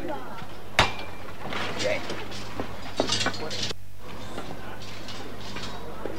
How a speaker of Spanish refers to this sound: Los típicos nervios antes de poner la hermandad en la calle. Suena de nuevo el martillín.